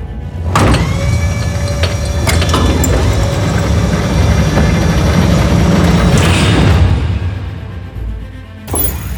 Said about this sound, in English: Doors have been engaged. Opening now.